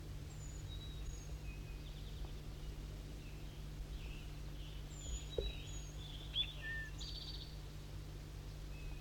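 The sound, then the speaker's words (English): A bird, recorded as bird 4-3, sings faintly with scattered short, high whistled notes and chirps at irregular intervals, set against a steady low hum and soft background noise. “Start recording bird 4-3 singing.”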